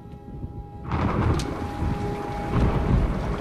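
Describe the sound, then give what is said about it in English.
Heavy rain sets in suddenly, a dense, steady hiss and patter against the window of a small dark office with a low rumble underneath, loud throughout with no voices. “Later, as the rain batters the window of the small dark office,”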